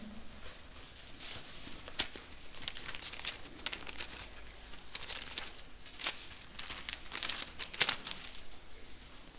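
Thin Bible pages rustle and flip in a quick, uneven series of crisp crinkles and soft swishes, fairly quiet, with no one talking, as someone turns to Genesis chapter 25.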